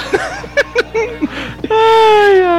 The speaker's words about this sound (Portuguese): Fica chorando aqui.